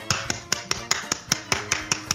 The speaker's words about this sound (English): How was that for the thunderous applause? There we go.